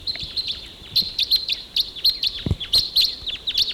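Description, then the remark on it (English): Crossbills, about four of them, calling in flight as they take off and fly up higher on a ridge: a rapid series of sharp, high chirps repeating in quick bursts throughout, with a brief low thump midway and no talking. “Okay, those crossbills, there were about four of them, took off and they went up higher on the ridge.”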